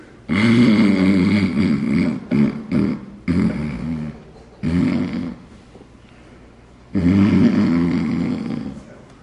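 A man snores loudly in long, rattling breaths, each drawn-out rasp separated by short pauses, close up with no other sounds around.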